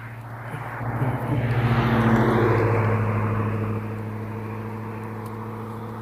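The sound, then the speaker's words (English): A heavy school bus engine rumbles with a deep, steady drone, swelling louder as it pulls in where kids are waiting and then settling into a constant idle. No one speaks. “Kids waiting for the school bus. It must be due any minute now.”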